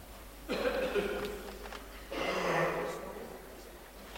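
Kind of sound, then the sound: human body sound, coughing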